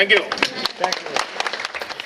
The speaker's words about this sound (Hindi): तालियां बजी प्रधानमंत्री के दिलासा देने पर।